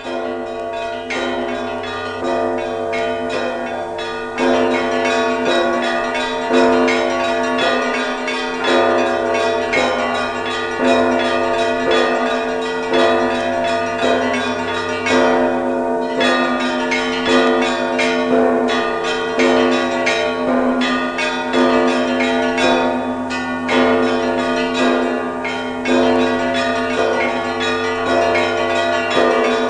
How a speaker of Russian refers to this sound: Вот вслушайтесь как-нибудь в трезвоны отца Михея на колокольне Троицы Сергиевой Лавры.